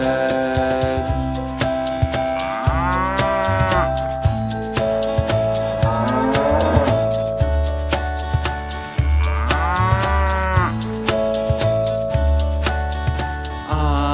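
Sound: cow mooing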